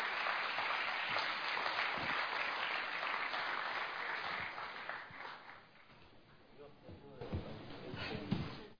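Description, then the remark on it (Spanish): A church audience applauds with dense, steady clapping for about five seconds to welcome a Panamanian brother who is to give the afternoon's testimony, then the applause thins out and fades, leaving scattered claps and murmuring voices near the end. “Vamos a recibirlo con un cariñoso aplauso.”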